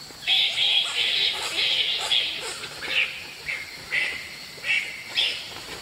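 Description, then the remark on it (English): A fruit bat's call: a string of shrill, squeaky chirps and chatters repeating in quick, uneven bursts, clear over a steady background hiss. “And another nocturnal avian predator of the same ecosystem, like a fruit bat, might sound like this.”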